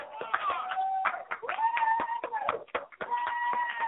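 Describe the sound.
An audience claps for recited Bible verses in uneven, scattered bursts, sharp hand claps mixed with sustained high voices calling out over them, loud throughout the few seconds.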